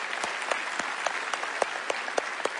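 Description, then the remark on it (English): A church crowd claps steadily with dense, fairly loud applause. Sharper individual claps stand out about every quarter second over the continuous patter, and no voices are heard. “One more applause for that.”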